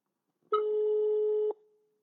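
A single steady electronic tone, the ringback heard while an outgoing phone call to a person at home in Kautokeino rings, lasting about a second at clear, even volume and then cutting off, with no voices.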